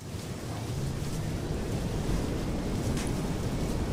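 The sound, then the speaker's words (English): Steady wind rushes and rustles for several seconds, a broad continuous whoosh with a deep low rumble and soft flutters, no voices present. “Oh, dude, you can hear the wind rustling the way the thingies.”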